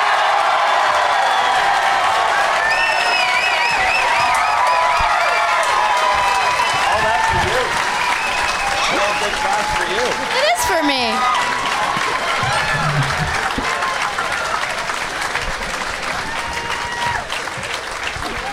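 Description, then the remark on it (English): Loud, sustained audience applause with cheering and whoops rising over the clapping, a dense steady roar of hands that holds for the whole stretch before easing slightly at the end, as guests Randy Sklar, Jason Sklar, Amy Miller and Mark Wahlberg are welcomed out. “Please give a big, warm welcome to Randy Sklar, Jason Sklar, Amy Miller, and Mark Wahlberg.”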